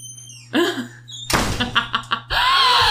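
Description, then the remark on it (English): A door slams shut with one loud, sharp bang, followed by a few rattling knocks. Brief vocal sounds come just before and after it. “Well, guess what, Squeaky Door?”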